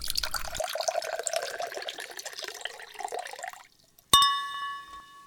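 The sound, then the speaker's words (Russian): A drink splashes steadily into a glass for several seconds, stops, and after a short pause a single bright glass clink rings out and fades. “Ну что, браток, наливай.”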